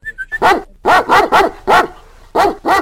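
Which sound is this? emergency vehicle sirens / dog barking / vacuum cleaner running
dog barking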